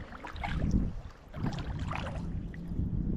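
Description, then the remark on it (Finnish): A motorboat's low engine drone comes along a waterway channel across open water, steady, mixed with wind buffeting and splashing; no one speaks. “Otto moottorivene tulos ja tämä väylä haarautuu tässä nyt.”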